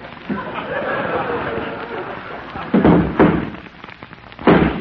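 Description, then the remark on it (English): A horse named Dandy kicks in its stall, landing a few heavy, irregular wooden thuds and bangs that rise loudly over a steady, rustling background hiss. “That's Dandy kicking up his heels.”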